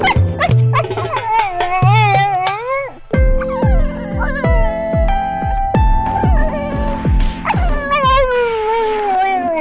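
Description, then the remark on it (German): A dog barks, whines and yips loudly for about ten seconds, with high wavering howl-like cries at the start and end and a run of rapid, repeated barks in the middle. “Das würde mein Hund dazu sagen.”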